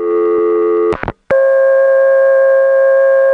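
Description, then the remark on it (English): A loud, steady electronic telephone off-hook tone from a phone left off the hook hums continuously, breaks off with a couple of sharp clicks, then returns at a different pitch and drones on unchanged, with no voices. “When I first heard this, it was 1969, and until this particular day, every time I had left my phone off the hook, all it did was...”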